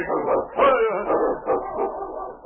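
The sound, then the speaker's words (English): Several sled dogs of Sergeant Preston's dog team, stopped in front of a cabin in the evening, bark and yip together in quick, overlapping bursts, fairly loud, with no voices over the din. “was late the following evening when Sergeant Preston stopped his dog team in front of Billy's cabin.”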